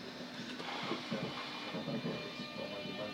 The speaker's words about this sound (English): Believe it or not, I am on a train heading for Charing Cross.